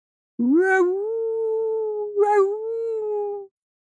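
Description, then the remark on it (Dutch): A long, steady animal howl at night under a high full moon, from behind houses, that swoops up into a sustained mid-pitched tone, breaks briefly, then rises again into a second held howl before stopping abruptly. Loud and alone, without talk. “Achter de huizen klinkt gehuil.”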